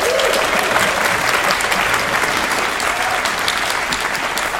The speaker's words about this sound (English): A big round of applause, please